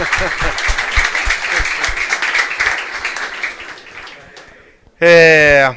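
A crowd applauds the Ajax club's trophies, with dense, steady clapping that gradually thins and fades over about four seconds, then a loud, sustained tonal note abruptly cuts in at the end.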